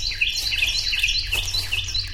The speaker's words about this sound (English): We're walking at dawn into a wooded preserve in East Texas. The Carolina wren we're hearing sings as the trail leads into an open grove of tall pines.